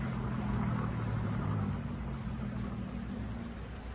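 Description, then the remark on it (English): A car engine drones steadily as the car comes up a hill, its low hum and broad rushing noise holding for several seconds before easing off slightly. No one speaks. “There's a car coming up the hill.”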